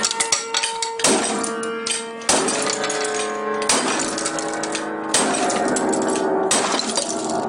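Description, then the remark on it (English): A giant wrench smashes into a little upright piano in a house about six times at a steady, slow pace. Each loud crash sets the strings jangling in a dissonant, ringing chord that sustains until the next blow. “He videotaped himself holding up a giant wrench in front of a little upright piano. "Right here." And then smashing it down.”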